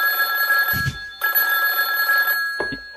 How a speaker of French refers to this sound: il y a le téléphone qui sonne.